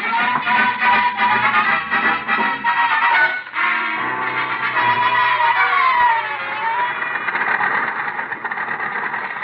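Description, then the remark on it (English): An old truck engine runs steadily for several seconds, a dense, rattling mechanical drone with a slight wavering rise and fall in pitch partway through, and no voices. “I said the old truck's running pretty smooth.”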